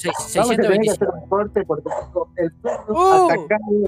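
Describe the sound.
A dog barks at someone at the door in a string of short, sharp bursts, mixed in with people talking loudly, the barks fairly loud.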